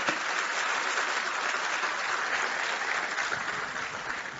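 A crowd claps steadily, a dense, sustained wash of applause that holds at an even level throughout and fades only slightly toward the end, with no one speaking over it.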